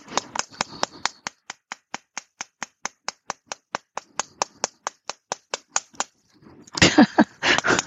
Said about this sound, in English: Need a new hammer too, so it's unscrewing itself. Funny part is I know it does it. I put it down and then I just forget about it, right? You ever do that? I forget about it until I go to use it again.